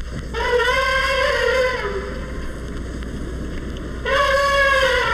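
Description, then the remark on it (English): An Indian elephant trumpets twice, each call a loud, brassy blast rich in harmonics. The first lasts about a second and a half, the second about a second, over a steady low rumble. “More famed is the elephant for its trumpeting.”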